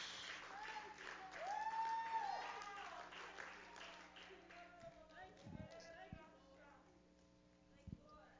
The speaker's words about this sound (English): Let's give God a hand clap. A hand clap of praise. Now, that was a hand clap. But can we give God a hand clap of praise?